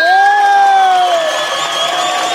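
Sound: protest crowd cheering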